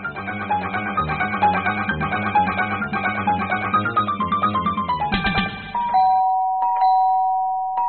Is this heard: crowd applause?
no